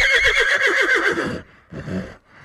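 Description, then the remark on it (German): A horse whinnies loudly, a quavering, pulsing neigh lasting over a second, followed by a couple of softer breathy snorts. “Das Einhorn verstand sofort, dass die Trolle mit Zackbum ihn meinten und sprang sofort auf und wieherte laut.”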